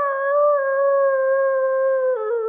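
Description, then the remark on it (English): A voice imitates a dog's blood-curdling howl heard at 2 o'clock in the morning: one long, loud, wavering tone held for over two seconds, sliding slightly lower and breaking briefly near the end. “And he said at 2 o'clock in the morning, he hears the most god-awful, blood-curdling thing he'd ever heard.”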